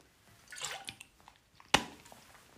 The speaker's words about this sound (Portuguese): Vou aqui beber a minha aguinha.